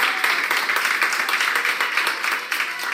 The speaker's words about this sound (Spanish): Termina la semana en la que hemos celebrado cada alta de pacientes con coronavirus como si fuera una victoria colectiva. Estos aplausos son de esta noche en el Ramón y Cajal de Madrid, primer paciente extubado.